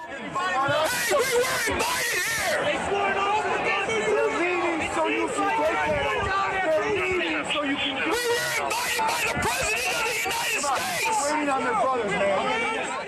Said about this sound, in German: Es ist leider ein bisschen laut und ein bisschen übersteuert, aber da stehen sie dann also vor dem Kapitol und schreien die Polizeikräfte, die dort stehen, an und sagen, wir wurden eingeladen vom Präsidenten der Vereinigten Staaten.